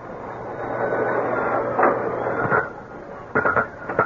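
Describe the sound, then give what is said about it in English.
A very fine tattoo drill buzzes steadily with a low mechanical hum and a thin high whine as it tattoos a large pink garlic sausage in a tattoo workshop, then breaks into a few short, sharper bursts near the end. “With a very fine drill, he was tattooing a large pink garlic sausage.”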